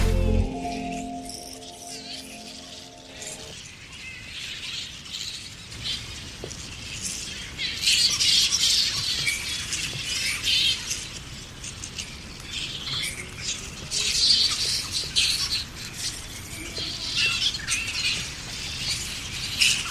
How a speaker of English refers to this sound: And we're just going to stay silent and just look towards the bats and be with the bats for a few minutes. Just notice without talking. Just really pay attention to the bats.